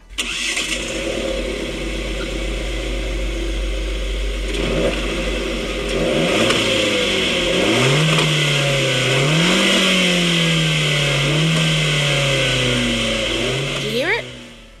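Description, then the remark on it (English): A small Fiat 500 car engine idles steadily, then revs up and down repeatedly in rising and falling sweeps, loud, before cutting off abruptly near the end. “But, I mean, here's some revs from a Fiat 500.”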